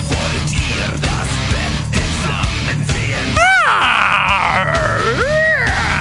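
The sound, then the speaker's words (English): Dense, heavy music from a recording by a German band plays, then a loud, drawn-out blood-curdling scream bursts in halfway through, wavering up and down in pitch over the continuing instruments. “You need to have a blood-curdling scream and mix it up.”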